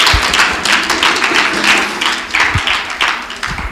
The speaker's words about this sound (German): Ich glaube, wir müssen diesem Gott einen wirklichen Applaus geben, gemeinsam. Ihm gebührt Ehre. Amen.